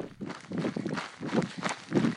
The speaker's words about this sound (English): Now that is a beautiful noise. The pack I carried has these water bottles. They slosh around and make a lot of noise, but only when I run, not when I walk. Usually I find it really annoying, but this time it was a welcome noise to hear.